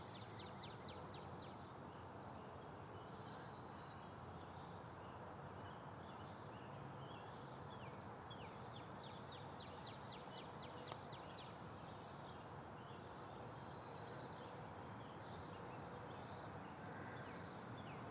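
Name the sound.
birds chirping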